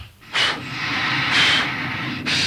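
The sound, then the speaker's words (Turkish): A blacksmith's forge bellows push air into the fire for forging iron in three breathy, hissing whooshes about a second apart, each swelling and fading over a steady low rumble of the fire. “Hadi al körüyü, başla bakalım”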